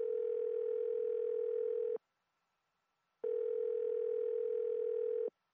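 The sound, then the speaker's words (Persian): Two long, steady electronic ringback tones, each about two seconds, separated by a pause of silence, heard clearly and alone as a phone call waits to be answered. “اجازه بده اینال من خودم تلفن میکنم. صبر کن.”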